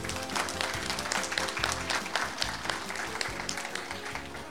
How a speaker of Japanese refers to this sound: 皆様大きな拍手でお迎えください。